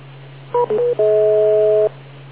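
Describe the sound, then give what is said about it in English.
A radio repeater's timeout tone: a few quick electronic beeps at shifting pitches, then one steady two-pitch tone held about a second, over a constant low hum with narrow, radio-like quality. “Repeater, timeout, cancel.”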